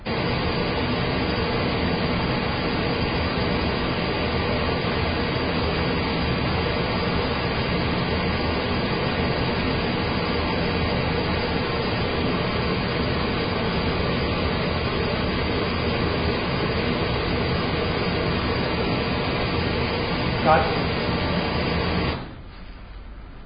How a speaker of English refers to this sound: Okay, I'm going to pop the pink noise on. We're going to do the delays first.